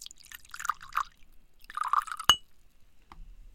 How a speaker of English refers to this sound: Okay, so let's pour a little bit of Lindor's.